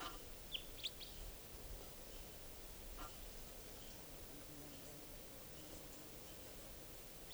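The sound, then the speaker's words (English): A juvenile wild bird that has been coming down onto the cages gives a couple of quick, high chirps early on, then one fainter call a moment later, all over a steady low hiss with no talking. “Pointing at wild birds, juvenile is still around.”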